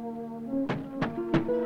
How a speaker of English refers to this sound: From across the street, Harlan hears the knocking from the inside of the locked church door.